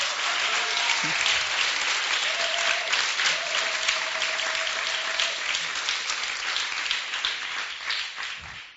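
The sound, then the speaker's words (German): A large conference audience applauds the two interpreters in the booth at the back, a dense wash of many hands clapping at once that holds loud for several seconds before gradually thinning out toward the end, with a faint whistle or cheer early on. “Und ein lauter Applaus für unsere beiden Sprachtransferhelfer in der Kabine da hinten”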